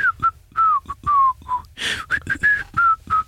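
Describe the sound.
A person whistles the rooster's bouncy, clear tune from the film Robin Hood in short, evenly spaced notes, each one sliding slightly in pitch, with a brief breathy rush of air partway through. No one speaks.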